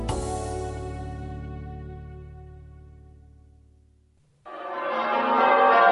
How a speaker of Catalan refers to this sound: Sonen campanes.